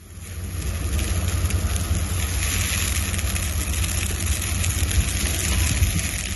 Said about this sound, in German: So klingt es, wenn ein Tannenbaum Feuer fängt. Das geht erschreckend schnell. Das haben meine Kollegen jetzt bei einem Experiment mit der Rendsburger Feuerwehr live miterlebt.